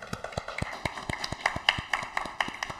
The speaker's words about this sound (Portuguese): A todos os nossos parabéns e uma salva de palmas.